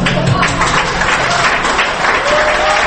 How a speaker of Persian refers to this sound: بله، این اونجا رو تشویق کردن.